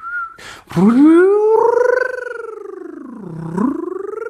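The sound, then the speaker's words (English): In a voice exercise, a brief whistle-like tone through lips pursed as if kissing, sending the air forward, followed by a sustained rounded-lip "ooh" vocal sound that slides up, dips low and rises again, steady with no talking. “Sending the air forward like a whistle.”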